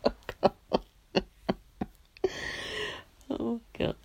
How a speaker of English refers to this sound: Oh God, I'm coughing that really badly.